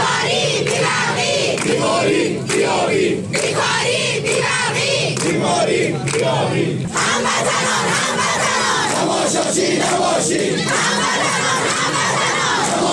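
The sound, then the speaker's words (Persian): A dense crowd of protesters in Ahvaz, Khuzestan, shouts and chants together in the street after power and water cuts, a loud, continuous roar of many voices with rhythmic rises and surges throughout. “مردم اهواز بعد از قطع شدن برق و آب و شدت گرفتن بحران در خیابان یا در برابر نهادهای حکومتی از جمله فرمانداری اهواز بارها دست به تظاهرات زدند.”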